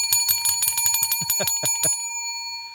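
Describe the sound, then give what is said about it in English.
A bicycle bell, rung to mark a correct answer in a quiz, rings in a quick series of about ten bright, metallic, loud dings, its tone lingering briefly before fading out, with no talking. “Boy, that bell is getting more fun.”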